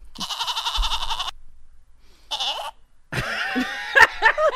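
animal, goat bleating

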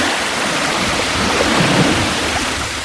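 sound effect, water splashing

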